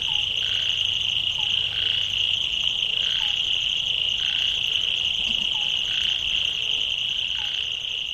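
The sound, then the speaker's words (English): A dense night chorus of many kinds of frogs calling over a constant high insect drone, with repeated pulsing croaks and short chirps recurring every second or so, steady and fairly loud throughout. “And the frog was do party. Yeah, the frogs they were happy.”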